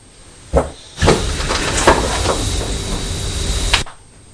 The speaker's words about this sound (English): Choo-choo's coming. Yes, please. We've not seen the trains for quite a while.